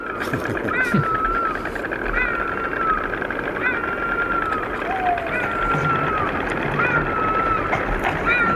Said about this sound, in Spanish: Intentando grabar de lejos unas cigüeñas crotorando, se me colaron 2 zorros peleándose, pues, por un quítame allá, esas piltrafas.